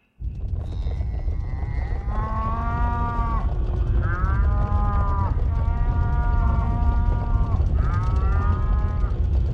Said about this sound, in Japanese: 牛はもうもうと叫びながら平家の陣になだれ込んでいきました。